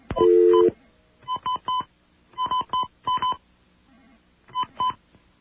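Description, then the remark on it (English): Touch-tone telephone dialing of a number owned by the phone company: a quick run of electronic keypad beeps in short clusters with brief pauses between, clear, starting with a longer tone and with no voices. “All right, we can't make that call, but we can make another call. And this will be to a number that's owned by the phone company itself.”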